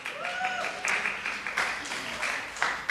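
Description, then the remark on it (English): An audience applauds steadily for a man receiving the Hero's Husband Award, with many overlapping hand claps forming a dense, crackling wash. Brief voices and a cheer rise over the clapping at moments. “so give him a hand clap.”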